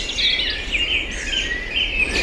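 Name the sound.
birdsong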